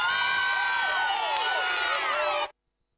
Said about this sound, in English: It was so exciting. I actually got applause for being smart.